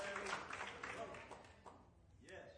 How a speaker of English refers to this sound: I want you to clap. Oh, clap your hands, all you people, and shout unto the Lord with the voice of triumph.